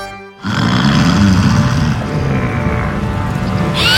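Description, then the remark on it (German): A deep, rumbling roar of a huge dragon snoring on a mountain, heard at the mountain's foot, loud and continuous with a gravelly low growl and a harsh rasp rising at the end. “So klingt es, wenn ein großer Drache schnarcht.”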